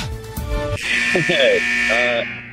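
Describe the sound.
A harsh, droning timer buzzer blares steadily for over a second, loud and raspy, while voices talk underneath and around it.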